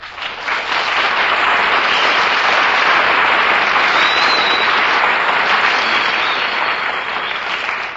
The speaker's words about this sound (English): That's an announcement that really deserves applause.